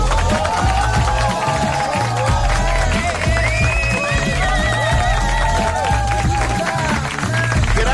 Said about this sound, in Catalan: Moltíssimes gràcies per aquests aplaudiments tan espontanis. Moltes gràcies.